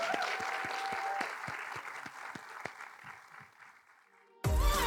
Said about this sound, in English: Can I get a massive, huge round of applause for the girls? Thank you so much.